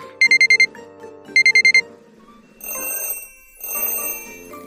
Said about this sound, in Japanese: 朝によく聞く音だよ。さあみんなで考えよう。わかったかな。正解は目覚まし時計の音でした。